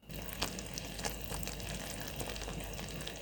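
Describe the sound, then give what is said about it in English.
Thick caramel bubbles steadily in a pot, a dense crackling simmer with scattered sharper pops over a constant low hiss. No voices are heard. “So this one's really bubbling.”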